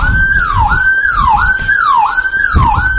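A loud electronic alarm on a building in Mostar wails continuously during a power outage, its pitch sweeping down and snapping back up in a fast repeating cycle, with a low rumble of background noise underneath and no talking.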